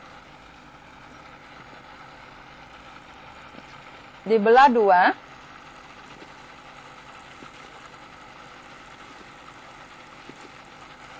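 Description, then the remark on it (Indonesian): A steady motor whir from an electric blender runs through the whole recording during a cooking demonstration, a low, even drone, while a voice speaks briefly over it midway. “Sambil memblender, sekarang saya akan mempertunjukkan cara memotong bunga kantan ini.”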